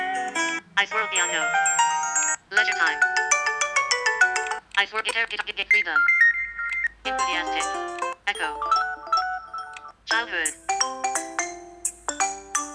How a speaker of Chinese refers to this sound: 啊，这是铃声。